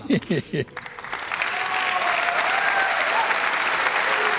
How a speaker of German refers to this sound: Und in der Sekunde wird hier nochmal ein gewaltiger Applaus aufbranden.